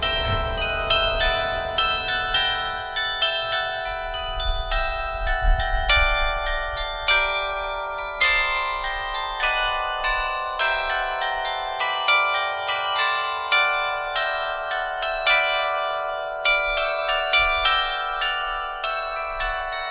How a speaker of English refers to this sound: Okay, let's have another song, because in fact Radio Netherlands uses, as an interval signal at the start of our transmissions, a song called Merk Toch Hysterik.